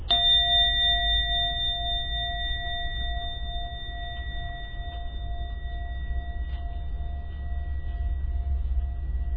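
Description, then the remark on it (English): A singing bowl, used in a meditation, is struck once and rings on with a steady, shimmering tone that sustains and slowly fades over several seconds, layered over a low background rumble. “the hitting of the gong bonger or whatever that's called of the singing bowl, and then the reverberation of the singing bowl, the sound of the singing bowl, that is the settling, that is the remaining of the mind with the meditation object.”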